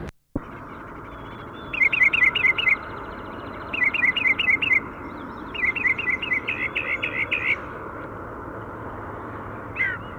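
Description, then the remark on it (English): Birds on Price Mountain, found bathing on a road, chirp in quick, high-pitched bursts of several notes each, three clear runs and a brief final one, over a constant low rushing background noise. “We're on Price Mountain and we found the birds bathing on the road, pointing at the female.”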